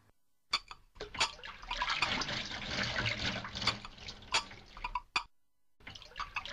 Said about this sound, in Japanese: ちょっと、いつまで食器洗ってるの？